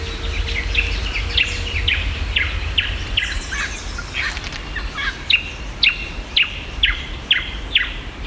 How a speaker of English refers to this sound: I've had a bit of a listen to the recording you sent me from Walleye Creek. And there's a lot going on there. There's a lot of birds. But the ones I could pick out were variegated fairy wren, little wattle bird, yellow-faced honey eater,